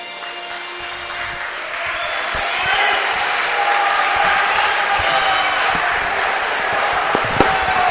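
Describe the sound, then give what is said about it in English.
Steady crowd buzz fills a high school gym before the starting lineups of a 4A state quarterfinal basketball game, a dense wash of many voices rising slightly over time, with occasional sharp thuds like basketballs bouncing on the hardwood. “This place is buzzing already here.”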